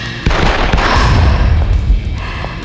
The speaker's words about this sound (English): A string of small explosions rattled along metal shelving she could barely make out in the back of the room.